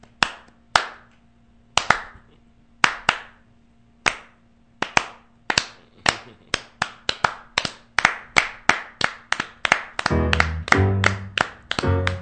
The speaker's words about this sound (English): That is a classic example of the slow clap.